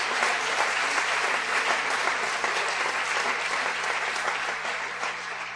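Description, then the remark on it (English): An audience claps hands in steady, dense applause that holds for several seconds, loud and continuous with no talking, easing slightly at the end. “And if you love him, clap your hands.”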